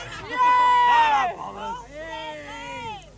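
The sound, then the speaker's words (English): Several excited concertgoers talk and shout over one another after a concert, a loud overlapping jumble of speech for about three seconds with no single speaker standing out. “Can we have one at a time? No screaming, right?”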